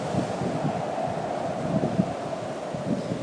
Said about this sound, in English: That's the wind howling through the 13th floor of the building we live in. The 13th floor is open on all four sides with a garden in the middle. The wind comes rushing through.